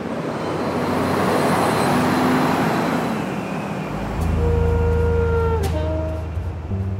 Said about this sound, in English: The only trouble is, I'm listening to the cars on the bridge.